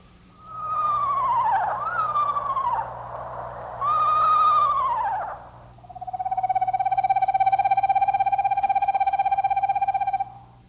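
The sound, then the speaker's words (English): An eastern screech owl gives two quavering, descending whinnies, then a long, steady monotone trill lasting several seconds, clear over a faint low hum with no talking. “The first one is the screech owl, and that's the kind of owl that the McFeelys have.”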